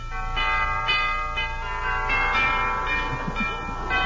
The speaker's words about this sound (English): Rather early when I drove up to the front door of that impressive old colonial mansion, and I rang the doorbell.